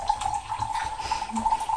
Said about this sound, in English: I'm pouring it. Pouring the tea from the pot into the cup. It's a mug, isn't it?